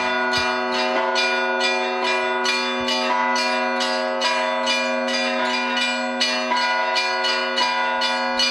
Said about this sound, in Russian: Золотые устремленные в небо купола видны из каждого уголка села, а колокольный звон всех верующих созывает на молитву.